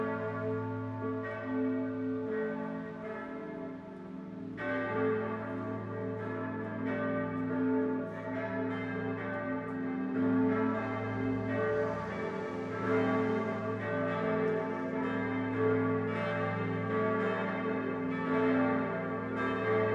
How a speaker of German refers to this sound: Zum Schluss läuten nicht weniger als 7 Glocken die Weihnacht ein. 5 stammen aus Heilbronn, 2 aus Bamberg. Sie hängen im Nord- und Südturm der oberfränkischen Basilika Gößweinstein, der spirituellen und kirchlichen Mitte der fränkischen Schweiz.